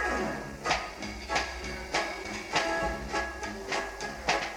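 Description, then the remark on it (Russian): A departing tram rolls along its rails with a steady low rumble and regular clacking wheel beats about twice a second, with no voices. “Громадяни, пасажири, трамвай відправлено.”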